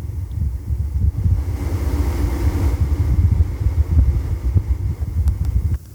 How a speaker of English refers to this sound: As you can hear, there's a fan humming in the background, right?